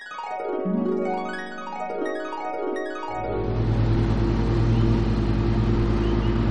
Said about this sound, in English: The leaf blower is our anchor to the world. Good, good. Very, very good. Let there be leaf blowers again!